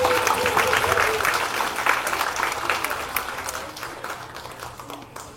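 An audience applauds in a dense, steady wash of clapping that holds strong for a few seconds, then gradually thins and softens toward the end. No one speaks over it.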